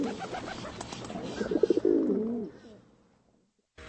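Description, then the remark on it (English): A pigeon coos, a soft, low, rolling warble that swells midway, then trails off into near silence. “But next time you see these birds, consider giving them a little more respect.”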